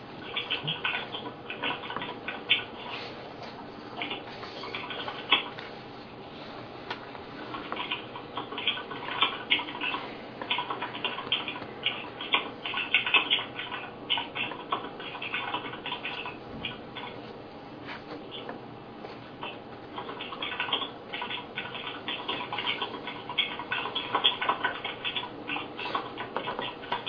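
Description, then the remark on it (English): Steady stream of rapid clicking keystrokes, like typing on a keyboard heard through a phone line during a call with the Government Ethics Commission, band-limited and continuous for the whole stretch with no voices. “Not sure whoever is typing, but maybe you could mute your phone.”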